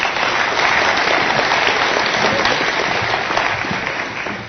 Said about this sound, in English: So please, CEO of the Insurance Council, Rob, I give him a very big round of applause.